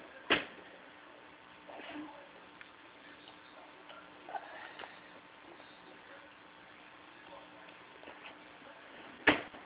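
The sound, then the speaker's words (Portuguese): A drawer is opened and shut, with a sharp wooden knock at the start and another at the end, and a few softer clicks and rustles in between. “Que a outra gaveta.”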